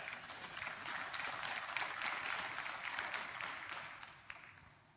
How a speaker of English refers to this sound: Not all of you clapped on that. I was watching.